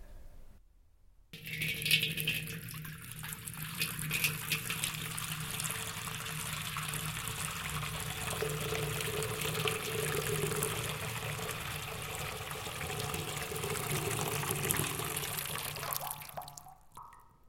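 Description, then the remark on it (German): During a baptism, a pastor drips water three times onto the head of a child held over a hexagonal sandstone baptismal font. Water trickles and drips steadily for over fifteen seconds, a continuous, fairly soft splashing patter with a faint rattling edge and no voices. “Dann betropft der Pastor 3-mal den Täuflingskopf.”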